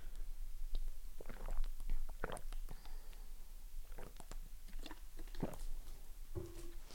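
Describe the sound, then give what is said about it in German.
A bottle is opened with scattered clicks and plastic handling noises, followed by soft gulping and swallowing sounds, all fairly quiet with no talking. “Und ja, vorher möchte ich aber was trinken. Nur ich kriege die Flasche nicht mit einer Hand auf.”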